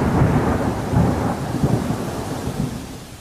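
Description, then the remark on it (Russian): Deep rolling thunder rumbles continuously, swelling in low waves every second or so, with a steady wash of rain hiss underneath and no voices; a thunderstorm at night over a village, after days of heat. “Проснулся он глубокой ночью от раскатов грома.”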